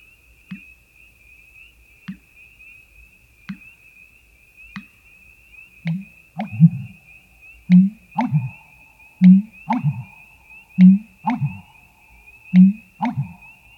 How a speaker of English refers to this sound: We'll start with the American bittern, which has a resonating mating call that can travel for miles and sounds a lot like a dripping faucet.